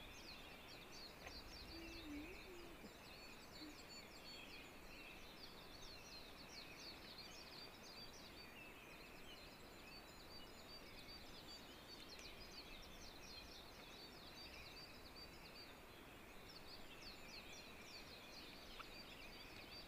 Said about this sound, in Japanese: 緑色した綺麗な鳩なんですね。青青鳴いてるから青鳩じゃなくて、あの多分体の色緑、青って言うんで、まあ多分そうなんだと思います。